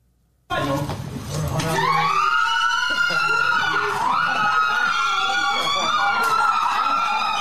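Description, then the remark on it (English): A crowd in a house bursts into loud, sustained cheering and high-pitched screams as a man enters the room, with excited shouting voices overlapping and the noise holding steady without letting up. “Oh, by the way, courtesy of TMZ Sports, and listen to the crowd reaction in that house when he entered the room.”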